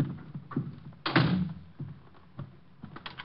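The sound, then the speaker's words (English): A door swings shut with a solid thump, followed by a series of small clicks and clunks as the lock is worked, with no voices. “I'm locking the door.”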